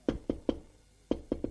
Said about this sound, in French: on a frappé à la porte.